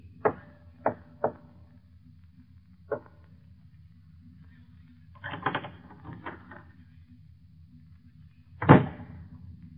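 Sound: door being opened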